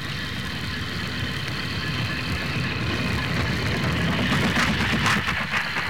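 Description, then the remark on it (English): A train approaches, rumbling steadily with a deep, throbbing low end and a hissing metallic whine on top, growing slightly louder and rattlier toward the end. No voices. “Tonight, …. Here she comes. Yep, here she comes.”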